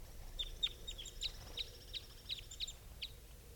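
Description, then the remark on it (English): Two captive birds, which had just been rushed and not caught, give repeated high, sharp chirping calls in a quick irregular series, with short bright notes overlapping at times above a low steady background hum. Nobody speaks. “I rushed the birds, and they did not get caught. And these are the calls of these two.”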